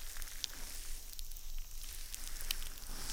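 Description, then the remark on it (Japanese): A steady, soft fizzing hiss of carbonated bubbles, with a few sharp, tiny pops crackling through at irregular moments. No voices are heard. “泡が弾けてます。”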